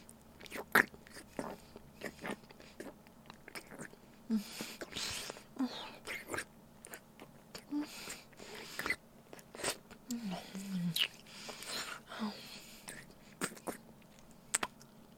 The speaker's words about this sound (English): Can you hear it in your headphones? All the lovely slurps. And wet sucks. Does it feel as good as it sounds?